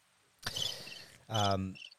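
insect, crickets chirping

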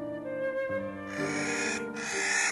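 bird, crow calling

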